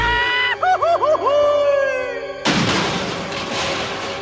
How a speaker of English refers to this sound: That's right. Just long enough to demonstrate how to end the cartoon. Begin the end by chasing each other into the distance, then scream comically.